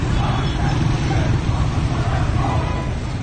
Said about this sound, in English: in the foreground you see this motorcycle patrol of paramilitary besiege units moving over to confront them